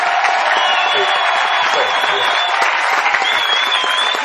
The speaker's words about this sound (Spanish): aunque hay un grupo de nosotros cuya presencia es oblicua. Está en un salón lateral. Aquí está. Vamos a gritar para que nos oigan por radio.